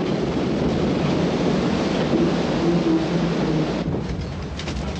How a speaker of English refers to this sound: Let's listen to a scene from the film where a boat is being tossed around in the rapids.